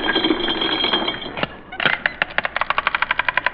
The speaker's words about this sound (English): Well, we got money. I'll show you. I'll open my wallet.